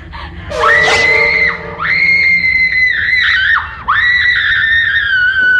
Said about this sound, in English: The only thing I'll give …, and I'm wondering, well, I didn't like her acting, but she could scream. I'll give her that.